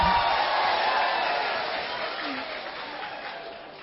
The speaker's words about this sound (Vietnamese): Xin quý vị cho một tràng pháo tay mà chỉ 5 tiếng thôi.